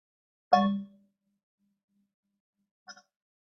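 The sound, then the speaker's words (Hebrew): A meditation bell is struck once with a bright, ringing tone that fades fairly quickly, followed two seconds later by a softer, briefer second tap. No one speaks. “מכם ששומע צליל הפעמון, אפשר פשוט לתת לו להדהד אם אתם שומעים אותו.”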